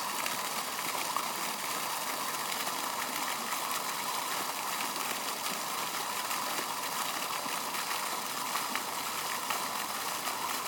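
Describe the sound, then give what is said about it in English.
Water in a town fountain splashes in a steady, unbroken rush, a bright hissing wash that holds the same level from start to finish with no voices over it. “there's another fountain which we're going to go past now”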